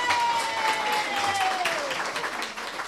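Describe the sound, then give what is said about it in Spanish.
A crowd applauds steadily for about three seconds, a dense wash of many hands clapping at an even level, with a faint high tone gliding slowly downward beneath it. “Un aplauso.”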